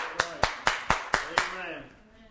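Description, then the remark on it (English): A church audience claps in unison to praise God, six sharp, evenly spaced claps in a quick steady rhythm, then the clapping stops and faint voices linger as it fades. “We need to exalt God. We need to applaud Him.”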